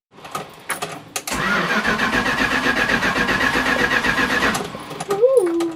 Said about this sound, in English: It was rotten beyond, but it had a really good engine. But it remains an engine that's difficult to start.